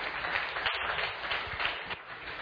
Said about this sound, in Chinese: 我们再给他一个掌声，好，鼓掌。